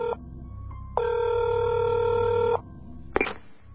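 An electronic telephone ring sounds over the line as a call is placed to a rental agency: a brief tone, then one long steady ring lasting over a second, followed by a sharp click as the call connects. No one speaks.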